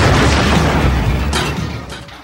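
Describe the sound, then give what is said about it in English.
A loud, booming movie-trailer explosion, the "I'm going to kick your" explosion sound bit also used in various other cinematic trailers, hits at once, heavy with deep rumble, then slowly fades over about two seconds with crackling debris-like noise. No voices are heard. “This is one of those with the I'm going to kick your explosion sound bits, which I think has been used in various other cinematic trailers as well, but to great effect here.”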